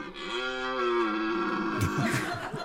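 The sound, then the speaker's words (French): A red deer stag bellows during the rut: one long, deep, droning roar with a steady pitch, breaking into a few rough, huffing grunts at the end. No one speaks. “C'est le brame du cerf.”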